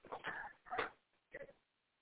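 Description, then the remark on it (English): A dog stuck behind a bed whimpers and whines in a few short, strained bursts, fairly quiet, with a brief pause before the last whine. No one speaks. “I think my dog got stuck behind the bed.”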